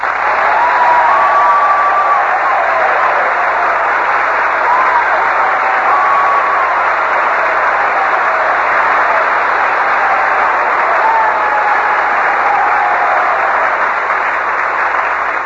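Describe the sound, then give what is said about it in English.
Sustained, loud applause from a large audience saluting Commander Robert Montgomery for his wartime Navy leadership, a dense steady wash of clapping that holds evenly for about fifteen seconds with no voices standing out. “Well, Robert, you can tell by that applause that these boys are all intensely interested in your Navy career.”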